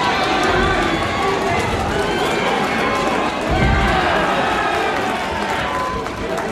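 A loud crowd around a fight between two boys cheers and shouts without a break, applauding when one hits the other very hard, many voices overlapping into a dense roar that swells briefly partway through before settling back.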